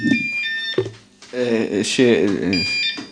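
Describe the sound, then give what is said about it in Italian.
A mobile phone rings with bright, steady electronic tones, sounding at the start and again near the end, while a man talks over it. “Già il telefonino. È già arrivato il telefonino.”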